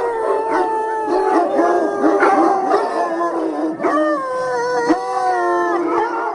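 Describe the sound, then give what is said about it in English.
A large pack of hunting hounds from a kennel of 110 hunting dogs howls and bays together, overlapping long wavering howls mixed with sharp barks and yips, loud, with no talking. “English hunters are so enthusiastic about their experience here, says Monod, that many ask to help her with her 110 hunting dogs.”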